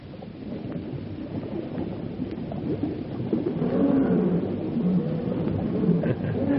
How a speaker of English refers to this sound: Fellow sounds hungry. Lions appear to be always hungry.